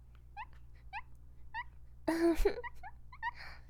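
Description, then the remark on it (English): A small female pet dog, urged to bark, gives a string of short, high-pitched nervous yelps, often in quick pairs, with one louder, rougher yelping burst in the middle; no one speaks. “See, her bark isn't even really a bark. She can't even do good as a guard dog. Sounds more like a nervous yelp.”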